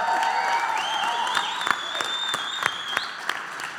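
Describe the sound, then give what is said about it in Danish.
A crowd applauds steadily, with sharp claps popping through a dense wash of noise while shrill whistles and cheers rise and waver above it. “Så skal vi ikke lige gøre ligesom, når Danmarks bedste fodboldhold, Brøndby IF, løber ind på banen hjemme på Brøndby Stadion, og så lige give ham noget i hånden.”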